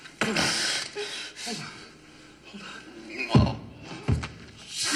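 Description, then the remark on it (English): Two dull, heavy thuds land about a second apart, a head banging against a warehouse floor, amid breathy gasps and rustling movement. “Stop banging your head. You're gonna bang your fucking hole in the floor.”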